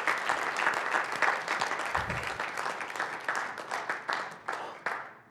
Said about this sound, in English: And for this reason, I want to say for the organization a big thank you and a big hug virtually. And I think it's worth to give a warm applause for these guys who organized everything.